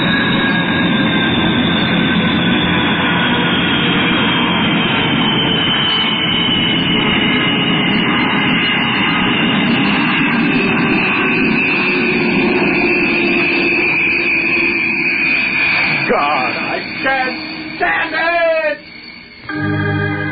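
A Viscount turboprop airliner roars loudly overhead, a steady heavy engine drone with a high whine that slowly drops in pitch as it passes, then breaks up near the end.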